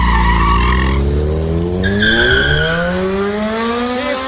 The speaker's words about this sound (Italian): Raccolse il biglietto con uno scatto felino e saltò in sella alla sua moto, partendo su una ruota sola.